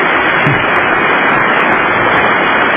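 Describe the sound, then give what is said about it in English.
Sustained applause from an audience during a speech, a dense, even wash of many hands clapping at a steady loudness throughout, with no voices standing out. “How many minutes of applause is there during this speech?”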